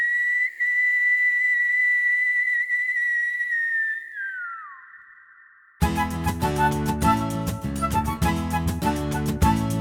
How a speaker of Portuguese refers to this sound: E muito tempo se passou, até que, quando estava prestes a anoitecer, um assobio aterrorizante ecoou por todo o povoado.